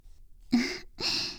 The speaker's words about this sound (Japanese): すっごい大きなあくび。